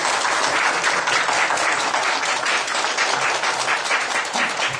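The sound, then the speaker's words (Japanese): Sustained applause from a large church audience during a worship service, welcoming a returning member: a dense, steady wash of many hands clapping at once, fairly loud and continuous from start to finish with no talking. “帰ってこられますので、大歓迎の拍手をしたいと思います。”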